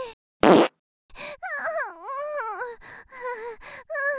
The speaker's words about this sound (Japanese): やだ、おなら漏れちゃった。でもおならするの気持ちいい。癖になっちゃいそうだよ。